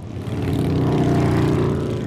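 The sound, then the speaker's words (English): A dense, continuous roar of many motorcycle engines rumbling together at Rolling Thunder, the annual Memorial Day weekend rally in Washington, D.C. commemorating U.S. prisoners of war and those missing in action; loud and low-pitched with a steady throbbing drone throughout, and no voices. “It draws tens of thousands of motorcycle enthusiasts to the nation's capital each year.”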